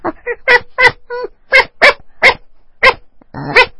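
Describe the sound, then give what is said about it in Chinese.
A person imitates a small pet dog with a quick series of about ten sharp, high yapping barks, loud, ending in a brief whiny yip, with no other talking. “那鸡过了以后呢，是狗，小狗， right.”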